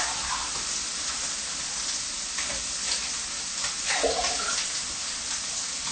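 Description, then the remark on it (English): Steady running tap water pours for several seconds with a constant hiss, as salad is rinsed under the stream, with a few brief splashy surges partway through. “See, when you wash and you see the water is all clear and has nothing suspicious, then that should be all right.”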